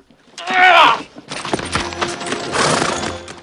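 A horse whinnies loudly at the start, then a line of horses clop steadily along at a walk on a trail through rocky, dry Pakistan mountains, hooves thudding in an uneven, overlapping rhythm.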